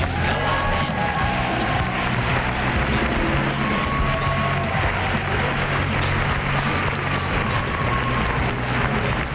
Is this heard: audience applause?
yes